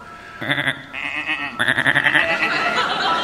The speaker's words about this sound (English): Just some sheep.